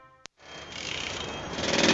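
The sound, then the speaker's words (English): A loud, harsh pneumatic drill starts up after a brief click and a pause, then hammers continuously with a dense rattling roar that grows slightly louder, with no voices. “People don't understand what it's like working with a pneumatic drill.”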